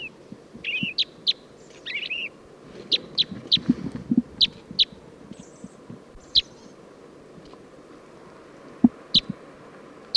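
purple finch song

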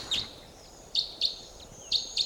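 bird flight call

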